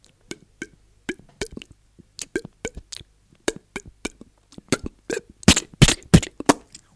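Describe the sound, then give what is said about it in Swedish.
A voice imitates a game bird's display call: a run of dry clicks and plops that quicken, ending in several louder, sharper pops and hissy bursts, with no speech. “Men han börjar så här ungefär.”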